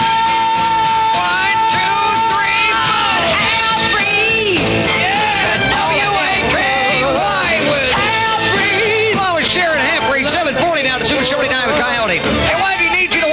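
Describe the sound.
The Coyote Yell sound played on WAKY radio: several voices yell and howl in loud, overlapping imitation of coyotes, rising and falling whoops repeating continuously over a noisy crowd backdrop.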